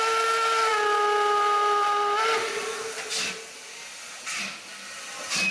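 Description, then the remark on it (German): A steam train whistle sounds one loud, sustained multi-toned blast lasting about two seconds, then several short bursts of hissing steam follow as the engine pulls away. “Oh, der Zug fährt ab.”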